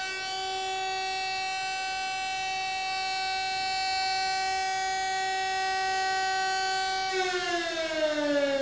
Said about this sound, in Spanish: La señal para empezar y acabar la jornada laboral era un toque de campana, o más habitualmente, una sirena.